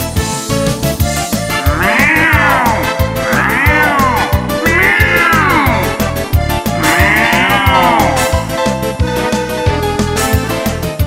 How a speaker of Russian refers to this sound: Орут мартовские коты.